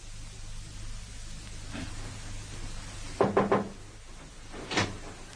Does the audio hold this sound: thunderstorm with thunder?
no